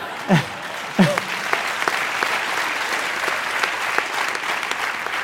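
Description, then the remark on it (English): A crowd of children and teenagers lined up on a fence cheers and claps a drone launch at a drone distribution center, with two sharp, sliding shouts near the start before the applause settles into a dense, continuous patter. “I wanted to show you the kids and the teenagers who line up on the fence every day, and they cheer every launch and every landing.”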